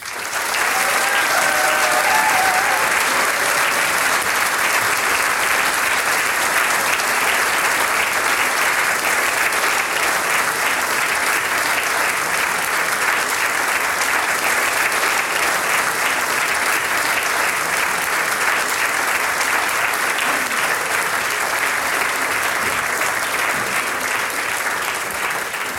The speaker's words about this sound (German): Dieser Applaus gehört jetzt euch. Danke.